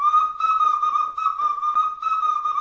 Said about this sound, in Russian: И был праздник свистунья, и он даже назывался свистопляска, потому что под этот свист люди плясали. Свистели взрослые, дети, старики.